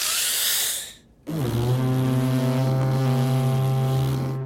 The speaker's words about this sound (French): Et c'est à ce moment-là que la corne de brume fait son entrée. L'appel de la corne de brume est la seule et unique façon de faire passer correctement le message de la saga du Duc au bois.